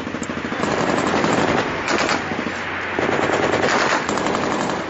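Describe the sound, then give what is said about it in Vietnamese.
Sustained bursts of rapid automatic gunfire rattle loudly and continuously from the direction of the Cầu Muốn canal, with brief pauses between volleys and a dense, crackling texture throughout. “Thêm mấy loạt súng nổ khang ở phía kinh cầu muốn rồi tất cả đều im bặt.”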